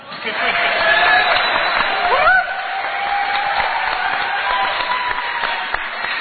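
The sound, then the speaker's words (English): The audience of the show Beyond Hope applauds steadily for several seconds. The clapping is dense, with a few whistles and whoops cutting through, and it eases slightly partway but stays full until the end. “You're supposed to applaud now.”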